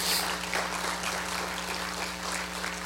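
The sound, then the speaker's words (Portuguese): An audience at a church service claps together for Jesus in sustained, dense applause, a steady wash of many hands over a low hum, with no one speaking. “Aplauda Jesus, querido, aplauda Jesus.”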